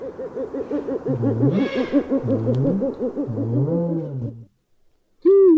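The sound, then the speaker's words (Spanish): An owl hoots in a steady run of quavering, rhythmic calls over about four seconds, fairly loud. A short silence follows before someone starts speaking. The owl is Mateo, the mathematical owl. “Bueno, y para terminar con este tema tenemos un sabio mensaje de Mateo, el búho matemático.”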